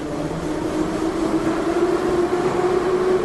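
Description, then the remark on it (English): An elevated train running on the loop rumbles along steadily and loudly, its broad roar carrying a sustained metallic whine that creeps slightly upward in pitch, with no voices present. “So that even if you can't understand exactly what's being said, you know which direction that train is going.”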